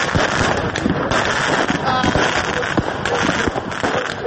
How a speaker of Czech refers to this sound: A u prohladnoj, ali i novogodišnjoj noći bez padavina su, osim muzike, uprkos upozorenjima policije, odjekivali i pucnji petardi i drugih pirotehničkih sredstava.